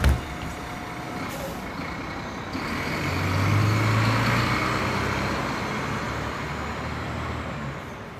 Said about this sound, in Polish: O, mój autobus jedzie.